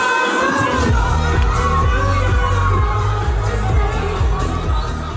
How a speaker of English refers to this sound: Is this just people screaming and listening to a song? Yeah, pretty much. In a club, yeah.